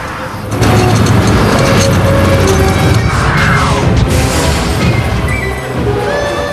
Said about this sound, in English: From around the corner, a massive snowplow comes into view. It has chainmail tires and smoke pours out from its engine funnel.